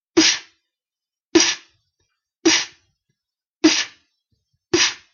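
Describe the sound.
Five sharp, breathy beatbox inward snare hits, inhaled through the lips, evenly spaced about a second apart, each a quick hissy burst with a short tail, fairly loud with silence between.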